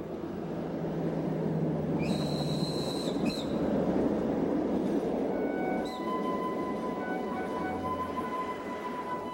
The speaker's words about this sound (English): She boards a late-night train headed for Riga, Latvia.